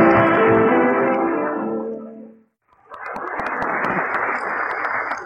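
A sustained musical chord fades to a brief silence, then a studio audience breaks into loud, steady applause, a dense crackle of many hands clapping that carries on to the end.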